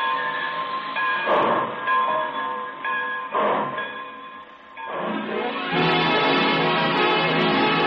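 A train pulls out at the close of the Railroad Hour radio broadcast, its steady whistle-like tones layered over rhythmic chugging bursts that swell into a fuller, louder roar toward the end. No voices are heard.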